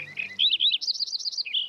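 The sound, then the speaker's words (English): A Lincoln's sparrow sings energetically from a hedgerow in the sunlight of an October morning, a lively, bubbly song of quick rising and falling trills that speed into a rapid jumble, clear with no other sounds. “In the golden sunlight of an October morning, a Lincoln sparrow sings energetically from a hedgerow.”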